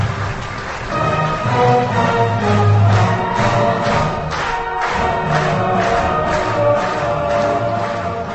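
An audience at a ceremonial meeting applauds steadily and loudly for about eight seconds for the graduates of 1954 and veteran teachers, a dense crackle of many hands with faint cheering, and the clapping briefly falls into a rhythmic beat toward the end.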